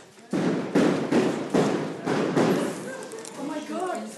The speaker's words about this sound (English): in the town of Ahli, and she was there when riot police attacked a group of unarmed civilians, actually fired tear gas into their home. I want to play you the tape of what that sounded like.